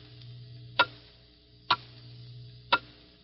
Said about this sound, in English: Hear it? Those are the last fading moments of 1950. The clock is steadily counting them out. 10 seconds.